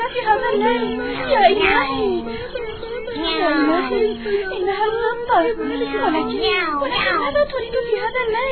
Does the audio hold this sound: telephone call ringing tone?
no